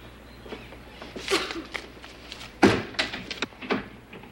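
A door is pushed open with a sudden heavy thud partway through as someone bursts in without knocking, surrounded by scattered bumps and shuffling footsteps. Nobody speaks.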